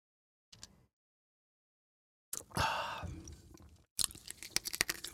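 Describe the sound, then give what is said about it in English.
A sip of Joe iced peach tea: a short faint noise, then a long wet slurp, followed by a burst of crunchy, rattling clicks like ice shifting. No one speaks. “Now, I'm going to take a sip of my peach tea.”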